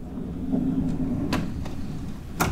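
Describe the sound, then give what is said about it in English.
A drawer of a furniture piece from Asia sliding and bumping, with a few sharp wooden knocks and clicks over a steady low rumble, with no one talking. “As you can see, there are lots of drawers that you can use.”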